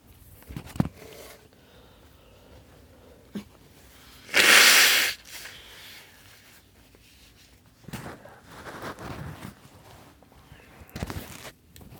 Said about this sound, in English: Hold on, I'm going to blow my nose.